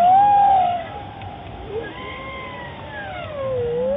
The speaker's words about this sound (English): The device picked up more than 60 unique songs. The variety of tunes was so surprising that the researchers compared the whale song catalog to that of birds. This is what they sound like.